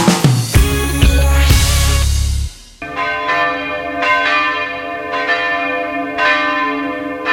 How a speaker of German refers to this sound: Ja, so klingen die Glocken der St. Stephankirche in Berg am Laim hier bei uns in München. Übrigens die einzigen Glocken in der Stadt, die noch von Hand geläutet werden.